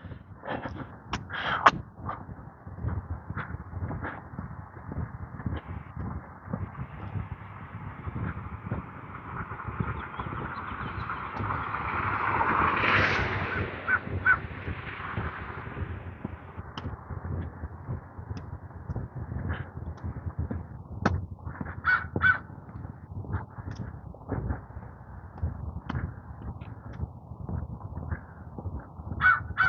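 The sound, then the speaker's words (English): A crow sitting on the peak of a roof caws repeatedly in the morning in short, harsh bursts, with a steady outdoor background hum and a swelling whoosh like a passing car midway; no one speaks. “Crow sitting on the peak of a roof over here.”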